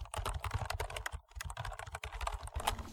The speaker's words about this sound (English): Quick, start typing something.